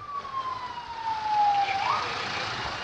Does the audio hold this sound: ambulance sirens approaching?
yes